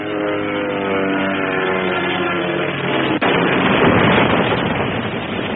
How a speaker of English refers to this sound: It's just along the street, Dad. Come on, run. What's up, mister? Plane crash just along the street. Is it a Jerry or one of ours, Andy? I can't see from here. Yes, whoopee! See the markings? It's a Jerry, all right, Dad. Good. ME-109, I think.